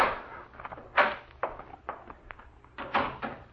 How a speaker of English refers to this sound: He was almost here now. The knob was turning in the door.